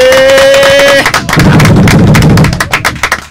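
A steady musical tone with overtones holds for about a second, then loud, dense applause from a packed TV studio audience bursts in to welcome a group, a rapid crackle of many claps that thins and tapers off near the end.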